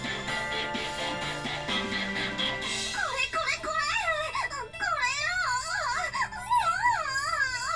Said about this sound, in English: Her expression changes instantly as she howls in joy.